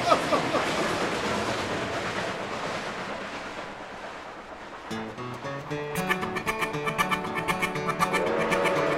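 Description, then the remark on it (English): A steady, rushing chug like a steam train running along the rails fills the first half, then gives way to music with a regular pulsing beat that carries on to the end. “Puffin' and a chuggin', you know that engine will reach the summit and go down the other side.”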